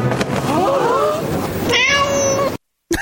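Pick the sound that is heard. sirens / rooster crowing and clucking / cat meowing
cat meowing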